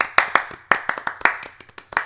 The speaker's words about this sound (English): I don't have an applause sound effect, so I'm just going to do this.